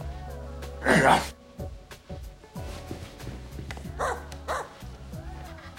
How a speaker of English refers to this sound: You were barking. Well, I'm excited. You know, when I get excited, I start making all kinds of sounds. You never barked before.